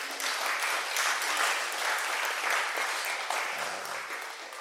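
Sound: audience clapping hands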